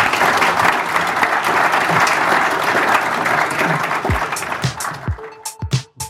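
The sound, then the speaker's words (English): Sustained audience applause for Dr. Alex Grant after a live interview at the South Start 2017 conference, a dense crackle of many hands clapping steadily, thinning toward the end into a few scattered claps before fading out. “So put your hands together for Dr.”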